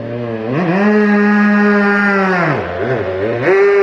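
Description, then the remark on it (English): Rider Gary Dines's racing motorcycle engine fires up and revs at the hairpin during a road race, after he laid the bike on its side, climbing in pitch to a loud, steady buzzing drone, then dropping away before a couple of sharp throttle blips bring it back up. No voices. “He's, listen to this, he's about to start.”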